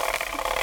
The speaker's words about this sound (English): A ratchet.